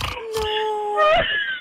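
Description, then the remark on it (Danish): A thin, whining squeal from a car holds a steady high pitch for over a second, rising slightly near the end, with soft rustling bursts underneath, sounding almost like a pig. “Nej, det er min bil.”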